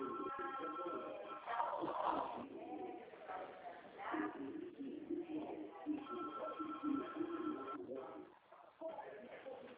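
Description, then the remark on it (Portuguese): Other telephones ring repeatedly in the background of a phone call, with steady electronic trilling beeps coming in bursts over a murmur of voices, all sounding thin and muffled like a phone line. “Você ouviu os bips, os outros telefones que estão tocando, e é normal”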